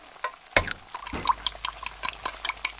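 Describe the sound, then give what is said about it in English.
Kitchen clatter of dishes and utensils clinking, with a sharp clank followed by a steady run of light metallic taps and clicks over faint running water, with no voices. “Can you tell if the surfaces in this kitchen are crawling with bacteria that could cause chronic arthritis?”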